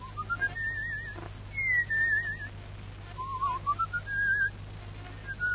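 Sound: person whistling a tune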